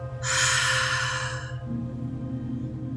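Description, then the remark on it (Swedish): A single deep, airy breath drawn in through the nose for about a second during a guided breathing exercise, then fades, leaving a low steady hum droning underneath. “Nu är allt samlat i bröstet och jag vill att du tar ett djupt andetag genom näsan. Håller andetaget och andas ut allt som du har samlat i bröstet, ut genom munnen.”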